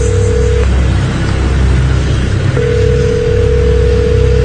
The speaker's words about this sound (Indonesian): Agar tidak begitu sepi, aku coba telepon pacarku untuk memberitahu kabar aku sedang ada di jalan pulang dan menanyakan dia sedang apa. Tapi ketika itu teleponku tidak diangkat.